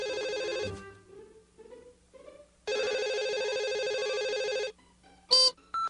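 A telephone rings loudly: a short ring, then a pause, then one long, bright ring, left for the answering machine to pick up. Two brief electronic beeps follow near the end, with no one speaking.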